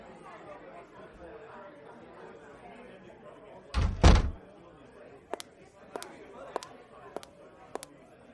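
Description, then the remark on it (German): A door bangs open and shut in two quick heavy thuds as someone standing outside is let in, over a low murmur of voices, followed by several sharp, evenly spaced clicks and knocks. “Ich weiß nicht, ob du Besuch erwartest, aber da steht noch jemand vor der Tür. Ey, lass uns die mal reinholen.”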